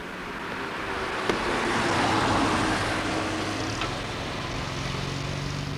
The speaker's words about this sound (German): Dann kommt hinter uns ein Wagen.